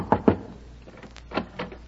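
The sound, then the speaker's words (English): Knocking on a door by a salesman of Dr. Schultz's health tonic: two quick raps, a short pause, then two more slightly softer raps, with no voices. “Oh, well, I'll try the next door.”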